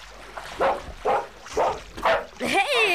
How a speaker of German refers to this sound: Es gab ein lautes Bellen und Rufen und Schreien.